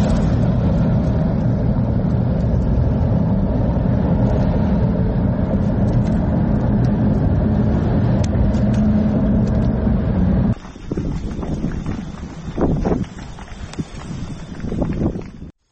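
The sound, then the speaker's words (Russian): Strong wind roars and buffets against the microphone in a loud, continuous rush, then abruptly gives way to a quieter, gusty rumble with scattered knocks and thumps. “Ветрюганище просто ужасное.”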